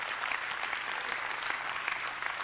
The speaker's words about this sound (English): Clap one more time.